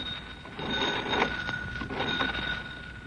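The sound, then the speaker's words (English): A telephone bell rings continuously for a few seconds as Lum places a phone call from the jot-em-down store in Pine Ridge, a steady metallic jangle over a hissy, crackling background, with no one speaking. “Lum is putting in a phone call. Listen.”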